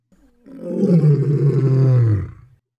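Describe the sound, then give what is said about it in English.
A single loud, deep lion roar swells up and holds for about two seconds before trailing off, rich and rumbling, with no voices over it. “Hey, you hear that, fellas? The lion's just north of us.”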